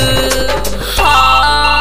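A mobile phone ringtone plays loudly, a bright electronic melody with sustained tones that shifts to a new phrase partway through, with no one talking.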